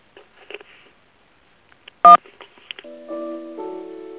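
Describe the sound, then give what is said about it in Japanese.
A single short telephone keypad tone sounds loudly near the middle as 1 is pressed after an automated announcement that the phone service will be suspended today, followed by a sustained two-step ringing tone on the line, with faint clicks and line noise before it. “電話は本日で利用停止されます。詳しくは1を押してください。”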